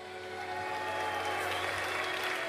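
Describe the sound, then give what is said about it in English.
A crowd claps steadily, the dense patter of many hands holding at a fairly loud, even level for the whole stretch, with a faint tonal hum underneath and no voices. “You're too fucking young, what are you clapping at?”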